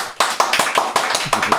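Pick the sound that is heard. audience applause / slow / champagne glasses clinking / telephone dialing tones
audience applause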